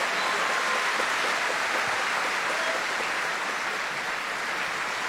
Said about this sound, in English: And Banquo getting a special cheer, Ildo Brando d'Arcangelo.